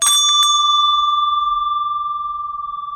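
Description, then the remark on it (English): A single bright bell strikes once with a sharp metallic attack, then rings on with a clear sustained tone that slowly fades over a few seconds. No voices are present. “Bells are everywhere.”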